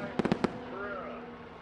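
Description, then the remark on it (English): A five-minute fireworks display crackles unseen in the mid-afternoon sky after the finish of a motor race: a quick burst of four sharp, subdued pops, followed by a steady background hum with faint voices murmuring beneath. “Then, as if the organizers had envisaged the lukewarm reception, a 5-minute fireworks display crackles invisibly in the mid-afternoon sky.”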